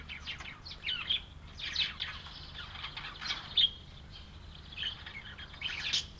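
A blue-winged kookaburra, an Australian bird of tropical northern Australia, gives its laughing call: harsh, cackling bursts rise and fall in uneven waves for several seconds over a faint low hum, with no voices.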